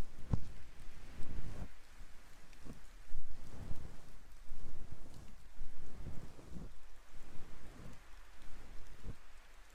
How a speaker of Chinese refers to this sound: 天气预报也不怎么靠谱，所以啊，身上要是没带伞，就麻烦了。没事的，反正下雨嘛。